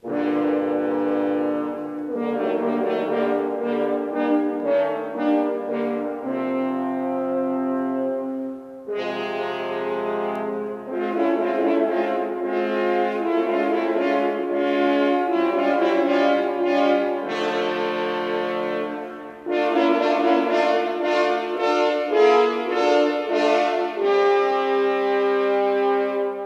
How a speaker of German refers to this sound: Der gross grau Wolf von drei Hörner.